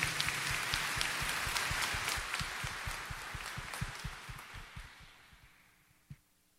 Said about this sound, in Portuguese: Vamos saudar a palavra de Deus com as nossas palmas.